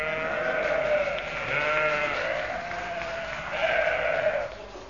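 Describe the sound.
A chorus of sheep bleating in long, wavering cries that swell and fade three times over a few seconds, loud and close, with no talking.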